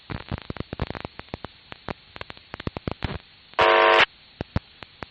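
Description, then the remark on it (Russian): Crackly amateur radio static full of sharp clicks and pops during a radio club round-table session in Novokuznetsk, broken midway by a steady, loud harmonic buzz on the incoming signal lasting about half a second before the crackling resumes. “Так, ну вот сигнал гудит, и на фоне гудения ничего не разобрать сложно.”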